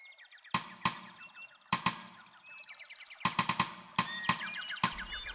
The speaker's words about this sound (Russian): Но дятел продолжал себе настукивать на высокой сосне, не обращая никакого внимания на зайца.